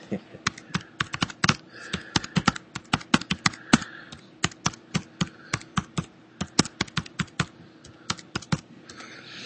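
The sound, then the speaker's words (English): Rapid, uneven clacking of keys on a computer keyboard while typing into the Grasshopper administration screen, dozens of sharp taps in bursts with brief pauses, steady throughout with faint background behind it. “Sorry about the typos in the Euro typing.”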